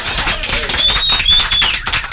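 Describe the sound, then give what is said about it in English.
Steady crowd applause played on the show Money Matters, a dense wash of many hands clapping at an even loudness for about two seconds, with a faint high whistle-like tone rising briefly in the middle. “The show cannot go on without the applause.”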